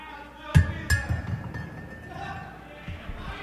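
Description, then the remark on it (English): A tin cup of water clinks twice in quick succession, each a sharp metallic knock, the second leaving a short ringing tone, over a low murmur of background noise. “Hey, you think I didn't get water in a tin cup?”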